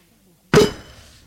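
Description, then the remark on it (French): A single heavy thump, like a fist slamming down on a desk, with a sharp loud attack and a short ringing decay that fades over the next half second. “Je vois crier, casser, serre les poings et donne un coup à son bureau.”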